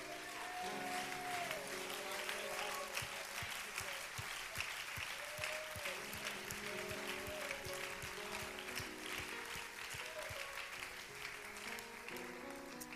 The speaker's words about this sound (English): Would you give God a hand clap of praise?